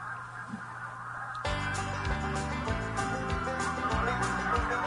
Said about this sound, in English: Oh, it's the geese. That's what I hear every night. I love it.